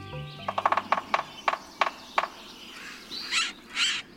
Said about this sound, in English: When you hear this drilling and cat-like squeal, look for a delicate woodpecker, a sapsucker. Depending on where you live, you're most likely to see one of three species.